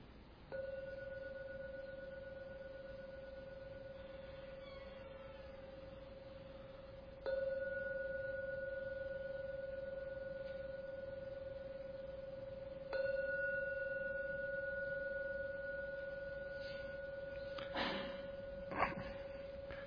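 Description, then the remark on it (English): A meditation gong is struck three times to end a meditation, about six seconds apart. Each stroke blooms into a steady, humming tone that rings on until the next, followed by a few soft knocks at the end. “And now I'm going to ring the gong 3 times to end the meditation.”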